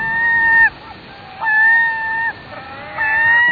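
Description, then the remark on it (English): Gulls give three loud, drawn-out wailing calls, each lasting under a second with short pauses between, over a steady rushing background like surf or moving water. “Ah, the sweet music of gulls.”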